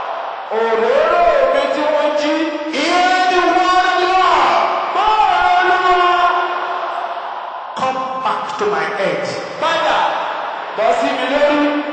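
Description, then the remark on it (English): A large crowd at a prayer gathering shouts loudly together in sustained, overlapping bursts of voices, filling the space with a dense roar that pauses briefly before surging again. “Can I hear you shouting this loud out there?”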